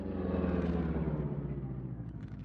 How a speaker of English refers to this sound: Look, Mr. Britt, on side of road. Stop the car, Cato.